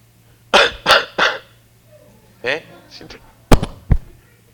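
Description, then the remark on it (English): A man preaching a sermon coughs three times in quick succession, pauses with a brief voiced throat sound, then gives two more sharp coughs, fairly loud over a faint steady low hum. “How can I preach about stewardship of our health when the person standing before you is coughing?”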